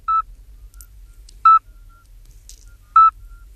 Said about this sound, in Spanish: De hecho, si nos vamos a más ejemplos de sapos, por ejemplo, le pedimos a Juanjo que oigamos el sapo partero, que es muy peculiar.